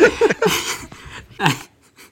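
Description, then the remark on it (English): An angry pet cat in a house lets out three harsh, raspy yowls mixed with hissing, in short bursts separated by brief pauses, fading to a quieter growl at the end. “I think my cat's angry at me. He's destroying my house. I heard that.”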